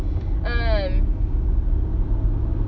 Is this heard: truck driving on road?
yes